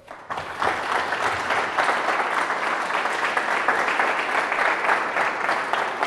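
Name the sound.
audience applause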